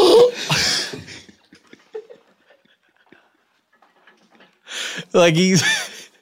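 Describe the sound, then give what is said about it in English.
A voice imitates a man's irregular, sudden gasping breaths: a short breathy burst, a quiet pause, then a loud, strained, voiced gasp near the end. “He gets it in spurts where he won't be breathing for a long time. And suddenly we go.”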